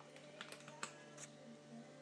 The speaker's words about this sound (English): Well, you can hear me do it now with my scissors. It's just normal scissors. These are the ones I don't use for other stuff.